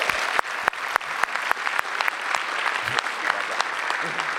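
An audience claps steadily, with a dense wash of overlapping hand claps and a few sharper individual claps standing out, sustained at moderate loudness for several seconds.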